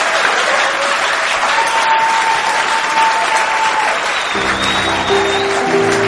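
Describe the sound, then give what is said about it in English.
A crowd applauds loudly and steadily, a dense wash of many hands clapping; partway through, sustained low musical tones rise underneath the applause. “I said, in North Korea, they clap better than this.”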